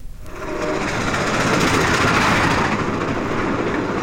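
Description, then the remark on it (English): A train at a railway station in the English provinces rushes in quickly from near silence and rumbles on loudly and steadily, with a dense, rattling clatter of wheels and carriages. No voices are heard. “The action of the play takes place in the waiting room of a railway station in the English provinces.”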